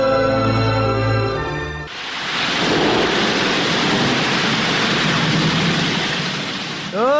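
nature, rushing flood water

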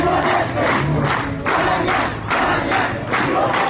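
crowd, crowd clamor

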